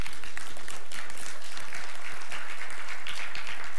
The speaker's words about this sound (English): Give them a hand clap.